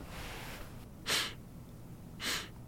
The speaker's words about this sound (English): Are you sniffing the inside of your pocket? Of course not, sir.